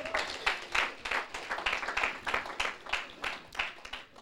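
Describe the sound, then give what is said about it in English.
A church audience at a morning service claps together for a man who has stood up, in a steady, fairly quick rhythm, the sharp claps bunching into regular bursts that continue throughout at moderate volume, with no clear talking over them. “Please clap for him.”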